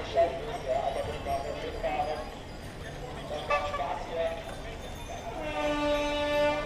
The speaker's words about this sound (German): Die einzige, die gerade mal überholt, ist die Straßenbahn.